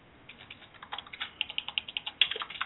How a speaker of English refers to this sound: I don't know if she's hearing all of this. I'm just typing it.